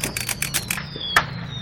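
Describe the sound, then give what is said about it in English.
A Bennett Pocket typewriter being typed on: a quick run of light, even keystrokes, then a pause and one sharper clack, with no voices. “This is the first portable, a Corona, and this is the Bennett Pocket typewriter.”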